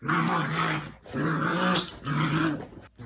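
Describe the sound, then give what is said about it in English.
A 9-week-old Labrador Retriever puppy named Ginny, being raised at home by a Seeing Eye guide dog school instructor, growls in three drawn-out, rumbling bursts with short breaks between them, fairly loud, and no one speaks. “That's a 9-week-old Labrador Retriever puppy named Ginny,”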